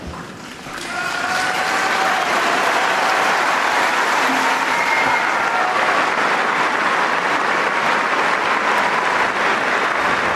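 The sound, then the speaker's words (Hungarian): A loud, sustained storm of applause from a large crowd of those present at the Pope's catechesis, greeting and thanking the Holy Father, swells up within the first second and continues steadily, dense and unbroken, with faint cheers or calls mixed in. “Kedves hallgatók, a szokott módon nagy tapsviharral köszöntik a jelenlévők, és megköszönik a Szentatyának a katekézisét”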